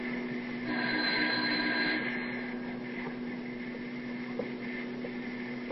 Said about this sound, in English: Ring the front doorbell instead and see what happens.